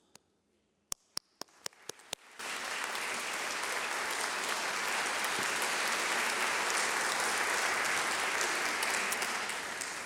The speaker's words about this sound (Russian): Я прошу поддержать его аплодисментами.